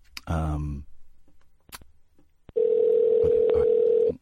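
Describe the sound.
A brief voiced sound and a couple of sharp clicks, then a loud, steady telephone dial tone hums continuously for about a second and a half before cutting off, as a phone call to America is placed.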